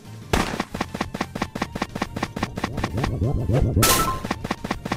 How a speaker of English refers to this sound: All right, game one. Balloon popping. All right, we're going to pop some balloons. Let's do it. Come here, balloons.